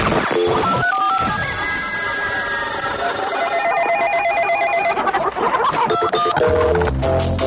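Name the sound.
telephone ringing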